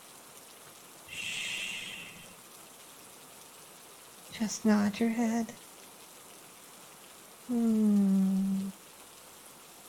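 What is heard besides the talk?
rain falling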